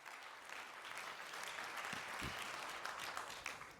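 Steady audience applause welcoming a speaker to a talk on hacking the Raspberry Pi RP2350 microcontroller, a dense wash of many hands clapping at an even, sustained loudness for several seconds, with no voices over it.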